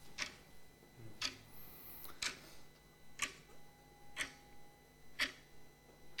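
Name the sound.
clock ticking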